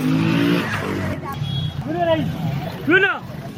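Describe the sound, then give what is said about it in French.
Engines drone and rev steadily at the Namasadanka banana market in Bamako while several voices haggle and call out to potential buyers over one another, with short rising-and-falling vocal calls standing out above the busy market noise. “Dans un grand bruit d'engins qui ronronne, se confondent marchandages et interpellations des éventuels acheteurs sur ce marché.”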